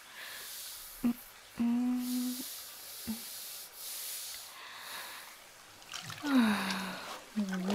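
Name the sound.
hot shower water running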